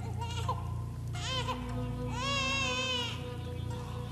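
A baby wails in three strained, rising bursts, the last one long and shrill, loud with short gasping pauses between cries and a low steady hum underneath.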